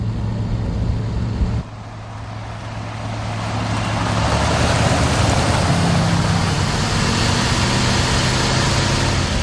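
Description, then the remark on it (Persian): A car engine hums steadily at a low idle, then shifts and swells into a louder, broader rumble as it keeps running. No voices are heard. “ماشینو نگه داری.”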